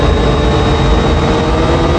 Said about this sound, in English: This is making some really weird sounds for being a simple Mustang.